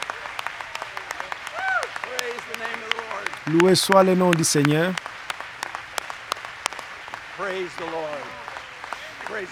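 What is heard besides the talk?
audience standing and applauding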